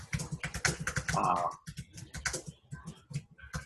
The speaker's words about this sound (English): That's not me typing for a change.